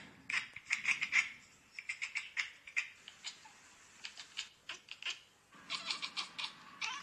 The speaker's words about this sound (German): Cats Chirping and Chattering, Cat Compilation